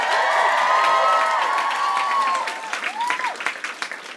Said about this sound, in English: Do us a favor. Give a round of applause to NPR for putting this whole thing on.